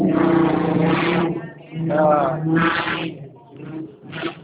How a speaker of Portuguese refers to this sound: Pode falar agora, já saiu uma moto aqui aí, tá? Deu para ouvir, não?